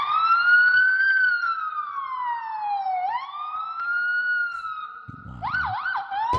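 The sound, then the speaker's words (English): A person who looks like a 12-year-old kid, standing in a hallway, convincingly imitates a police siren with their voice: a long, loud rising-and-falling wail that breaks into quick yelping sweeps near the end, with no talking. “This looks like a 12-year-old kid doing a police siren.”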